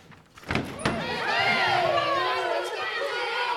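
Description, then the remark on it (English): A door bangs open at the lunch bell at Hartigan school onto a loud swell of children's voices, dozens of youngsters pouring out of the schoolrooms, chattering and shouting at once in a dense, lively crowd that carries on without a break. “And I opened the door, and pouring out of the schoolrooms were dozens of energetic, active youngsters.”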